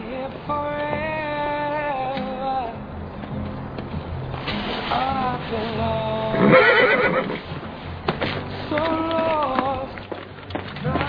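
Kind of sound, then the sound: animal, horse neighing and whinnying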